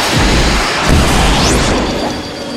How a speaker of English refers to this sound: That's actually the sound. But that's a time machine going through time. This is just flying.